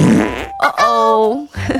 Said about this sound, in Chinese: 那当然，有些时候我们会发生一个情况，就是你可能不小心在公共场合，像是你如果是在学校或是教室里面放了一个很大声的屁。